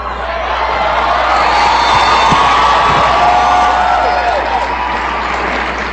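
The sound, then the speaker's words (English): An audience heckles a speaker, shouting and yelling loudly and continuously, a dense roar of overlapping voices with scattered whoops and cries rising above it for the whole stretch. “I'll let you be rude and interrupt me. Scream at the top of your lungs.”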